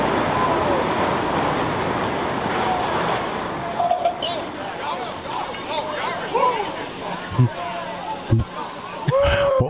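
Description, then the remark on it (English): Onlookers outdoors cheer after a power plant in Bridgeport is imploded at 4 in the morning, scattered whoops and shouts rising over a steady rumbling din, with a few sharp claps and bangs near the end. “All right, so there's some woos. You can always count on a woo after an explosion.”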